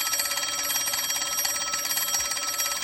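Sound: telephone ringing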